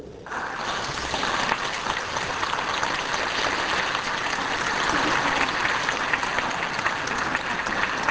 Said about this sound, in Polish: Bardzo dziękujemy chórowi. Brawa dla chóru.